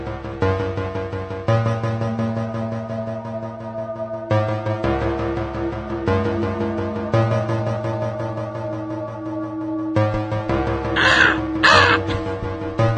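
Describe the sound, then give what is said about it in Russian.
Harsh crow caws burst out near the end, a short cluster of rasping calls from crows right outside a window under a darkened, cloudy sky, rising over a dark, droning music bed with heavy low tones that cuts in and out in sections. “На улице потемнело, сгустились тучи, вороны каркают.”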